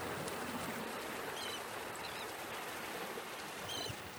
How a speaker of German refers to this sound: Oh, da hört es sich wie im Meer.